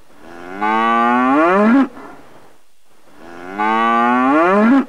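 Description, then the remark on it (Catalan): Two loud, drawn-out cow moos, each about a second long with a rising then falling pitch, separated by a short pause with no talking. “Després de sentir a la nostra mascoteta, que sol fa ella, saps?”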